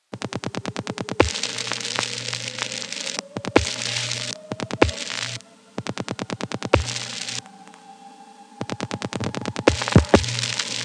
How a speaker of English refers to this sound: Yeah, that is a subway motor. It doesn't have anything to do with the phone network, but it's kind of cool that it gets picked up when I'm recording the phones.